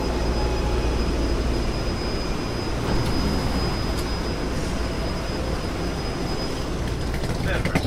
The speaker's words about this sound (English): It's a ride. It's a 9-car train. San Francisco, Dublin, Pleasanton.